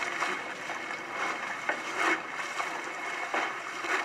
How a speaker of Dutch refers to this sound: Dit zijn de golven die eigenlijk een klein bootje veroorzaken.